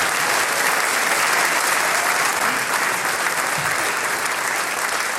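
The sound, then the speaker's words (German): Loud, sustained applause from a large audience in the Prunksaal in St. Peter-Freienstein, a dense wash of many hands clapping at once that stays steady for several seconds with no voices standing out. “Für die Radiohörer, das ist einmal ein Riesenapplaus da aus dem Prunksaal in St. Peter-Freienstein.”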